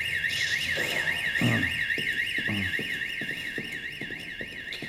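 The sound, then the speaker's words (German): A fire alarm, set off by a test subject during a fire experiment, wails nonstop, its electronic tone rapidly warbling up and down for the whole stretch, loud, with faint clattering and thuds underneath. “Und außerdem löst er auch noch den Alarm aus.”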